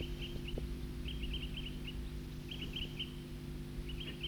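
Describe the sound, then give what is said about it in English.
A small flock of birds at Cataract Creek gives short, clipped toop calls in loose clusters of several notes, moderately faint, over a steady low rumbling background. “Those birds are still tooping here at Cataract Creek.”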